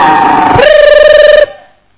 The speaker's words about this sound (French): Sasa huyu polisi anawakilisha serikali yote mzima na mamlaka yake. Il a son sifflet comme ça. Iko tu na filimbi kukinywa hivi.